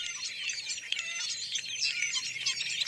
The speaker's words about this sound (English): Sometimes other fruit-eating birds, such as these starlings, accompany them. The species often travel together while searching for food.